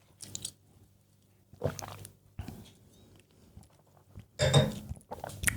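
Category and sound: food or drink, biting and chewing food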